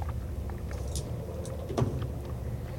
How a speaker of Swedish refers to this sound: Och här misslyckas. Bilen spinner runt. Den får en jävla slir här när du trycker plattan i botten